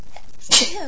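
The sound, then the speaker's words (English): A single loud, explosive sneeze bursts out at a workplace, a sharp breathy blast followed by a brief trailing vocal tail. “Oh, big ones. I've actually been sneezing.”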